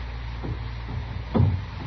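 A door rattles and thumps three times in an uneven rhythm as someone works it from outside, the last jolt the loudest, over a low steady background hum with no voices.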